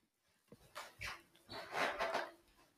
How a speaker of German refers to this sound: Möchtest du eher schnell was zu trinken geben? Ja, das mache ich jetzt kurz, komm. Also komm. Komm. So. Gib dem Hund was zu trinken.